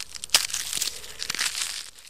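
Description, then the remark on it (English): Dry, brittle crumbling and crunching as a garden hose turned to ash breaks apart in the driveway of a house burned in the deadliest fire in California's history, a steady papery crackle with sharper snaps scattered throughout, fairly quiet and with no voices. “This is what a garden hose turned to ash sounds like.”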